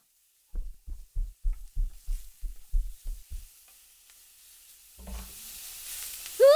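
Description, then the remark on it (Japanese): Fried eggs burn, sizzling and crackling in a hot pan as smoke rises. A steady hiss rises after a run of soft, low, rhythmic thumps, ending with a brief high rising tone. “焦げちゃった。あいやー、やっちゃったっす。 うえ、さっぱり癒されない音がする。”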